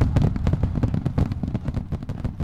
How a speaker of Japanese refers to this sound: 花火始まったみたいですね。